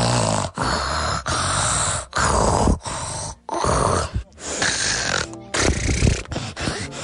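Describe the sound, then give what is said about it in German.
A person loudly imitates snoring through the nose with a string of harsh, rasping snorts and rattling breaths, repeated in quick bursts with brief gaps, with no talking. “Und ich kann auch ganz laut schnarchen.”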